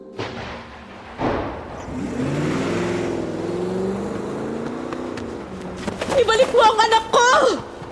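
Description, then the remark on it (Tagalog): A car engine roars, revving and climbing in pitch as it accelerates away over several seconds with a baby placed inside, followed by brief high-pitched wailing tones near the end. “Ipinasok niya sa naghihintay na kotse ang baby at humarurot sila paalis.”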